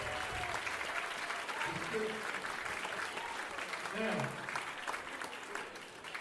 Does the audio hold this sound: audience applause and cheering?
yes